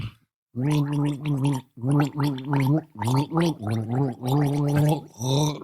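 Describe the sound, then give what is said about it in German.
A voice hums the tune of Jingle Bells through a mouthful of water, the tone bubbling and rattling with gargling. Several loud phrases follow one another with short breaks between them. “Mach nur einen kleinen Schluck.”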